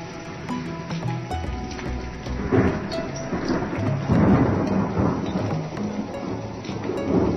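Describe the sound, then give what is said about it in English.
Thunder rumbles through a steady downpour, with deep rolling swells building and fading over several seconds while rain hisses continuously. No one speaks. “Thunder.”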